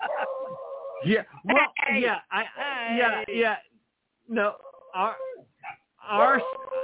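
A female pet beagle barks and bays in a loud, uneven series of yelping calls with whiny, pitch-sliding notes, broken by a brief pause before a few more sharp barks.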